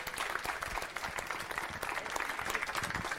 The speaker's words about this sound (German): Kommen alle mal, die jetzt irgendwie tatsächlich auch da sind vom POC und einfach mal hier hin und bitte nochmal einen Applaus für unsere Leute.